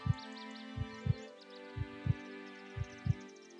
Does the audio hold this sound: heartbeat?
yes